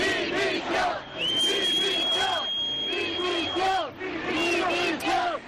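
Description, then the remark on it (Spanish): A large crowd at the Plaza de Lima shouts and boos continuously at the prime minister, Pedro Sánchez, as the authorities arrive at the stand. A long, piercing whistle cuts through the din for a couple of seconds amid scattered voices. “Un poco antes llegaban las autoridades al palco ubicado en la Plaza de Lima y de nuevo, otro año más, hemos vuelto a escuchar los pitos y los abucheos dirigidos al presidente del gobierno.”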